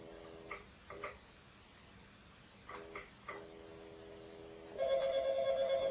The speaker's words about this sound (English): Ooh, is it ringing? Ding-a-ling-a-ling.